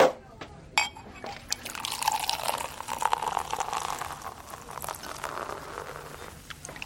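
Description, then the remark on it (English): Champagne is poured into two glasses, a steady hissing, bubbly stream that fills over several seconds after a brief clink at the start. “2 glasses of champagne, please.”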